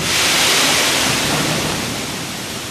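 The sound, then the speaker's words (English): A dense, steady rush of corn kernels pouring into a train railcar at WGM, a grain elevator and train station in McDonough County, as the train lurches forward; a loud continuous hiss that eases slightly toward the end, with no voices. “The train lurches forward every few minutes, filling each car with a waterfall of corn.”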